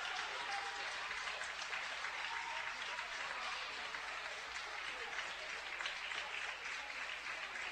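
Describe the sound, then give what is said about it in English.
Sustained crowd applause from a standing ovation by the Sal Shelby crowd at a basketball game, for Kelly Rademeyer after her fifth foul with the score tied 53 apiece, a dense steady wash of clapping that holds at an even, loud level for the whole stretch, with no pause or fade. “Tie 53 apiece, and she'll get a standing ovation from the Sal Shelby crowd.”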